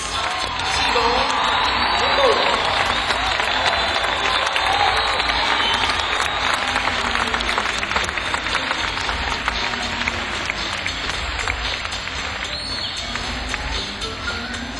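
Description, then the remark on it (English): Sustained audience applause and cheering at a live band concert, an ovation for the drummer, a dense, steady wash of clapping with scattered whoops and shouts rising above it, loud throughout with no speech. “I think we ought to give another round of applause, ovation, if you will, because he works so hard keeping us playing together on the drums,”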